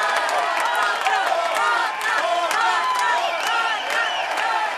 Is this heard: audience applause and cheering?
yes